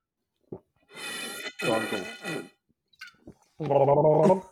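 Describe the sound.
Loud slurping of hot coffee in two or three noisy, gurgling pulls, then a short pause and a drawn-out satisfied voiced sigh.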